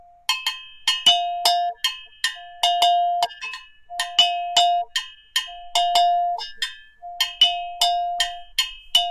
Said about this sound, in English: They're all part of the same piece of metal. Yeah. And you know, there's just a high bell and a low bell, mm-hmm. basically.